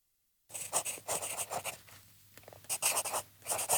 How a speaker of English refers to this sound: He sat at his desk and wrote a note on a small piece of paper.